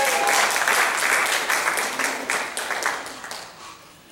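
A crowd at a Sunday morning gathering applauds a first-time guest, with dense overlapping claps that hold a fairly even loudness before thinning and tapering off toward the end. No one speaks over it.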